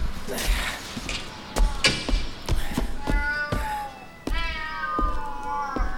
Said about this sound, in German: Oh nein. Das sind ja Katzen. Überall. Auf den Stufen. Sogar auf dem Geländer.